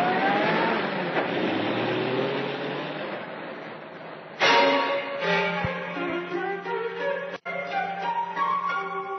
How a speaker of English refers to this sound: Car drives away.